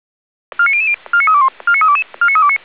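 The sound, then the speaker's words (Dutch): Alerting tones for the Soest fire brigade, called to a grassland fire at Kerkpad Zuidzijde near number 134: four short bursts of rapid stepped electronic beeps, each a quick run of shifting mid-to-high pitches, sounding loud and clean with brief gaps between bursts and no voices. “Alarmering voor de brandweer Soest.”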